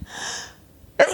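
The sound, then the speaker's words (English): A single sneeze: a breathy drawn-in inhale, a brief pause, then a sudden sharp, loud burst of air trailing off into a hiss. “Bless you. Excuse me.”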